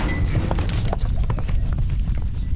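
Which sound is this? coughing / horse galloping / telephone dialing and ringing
horse galloping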